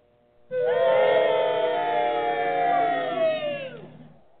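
A loud crowd boos in one sustained, droning wave of many voices, rising abruptly, holding for about three seconds, then sagging and trailing off.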